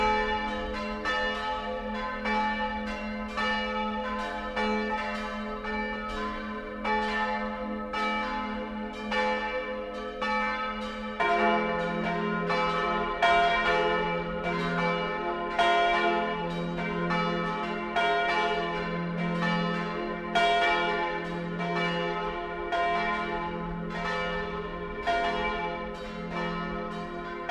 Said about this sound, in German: Die Glocken von Terfens. Sie führen uns zu einem anderen Hausvater. Das kleine Dorf liegt rund 15 Kilometer nordöstlich von Hall auf einer schmalen Terrasse hoch über dem Inn.